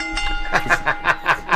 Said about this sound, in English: Ring the bell again.